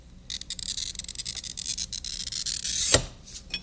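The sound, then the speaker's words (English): A glass cutter scores across a piece of red glass laid under a paper pattern, with a steady, high, scratchy rasp that runs for about three seconds, ending in a brief sharp click before fading. No one speaks. “Can we take a glass cutter and score the glass with him?”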